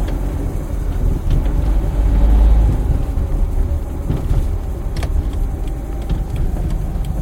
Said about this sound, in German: Also setze ich mich in mein Auto und fahre zu der angegebenen Adresse.